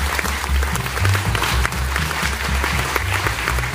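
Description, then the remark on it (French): Steady audience applause congratulating a team after a theatrical presentation, a dense, continuous patter of many hands clapping at an even loudness for several seconds, with no voices standing out. “je pense qu'on peut les féliciter et les applaudir pour commencer les gens.”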